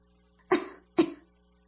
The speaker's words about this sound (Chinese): 雨村独自坐着无聊，喝了几口茶，翻了几页书，忽然听到院子里有女孩子的咳嗽声。